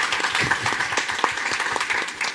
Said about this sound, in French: Mon frère qui est en retard, c'était comme prévu, il arrive. Est-ce qu'on peut applaudir mon petit frère